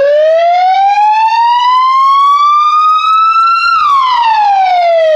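A loud ambulance siren wails on its own as the ambulance departs for a man who choked on food, its pitch rising slowly over a few seconds and then dropping sharply, with no voices over it.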